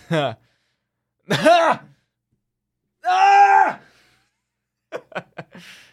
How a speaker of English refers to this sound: I had to scream at the demons. I had to do an exorcism live on the show.